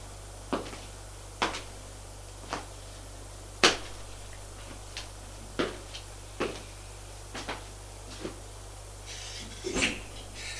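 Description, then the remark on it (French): A door being opened and shut, heard as a string of about a dozen sharp wooden clicks and knocks at irregular intervals over a steady low hum, with no voices. “Ouvre une porte, éclaire, le fait entrer, ferme la porte.”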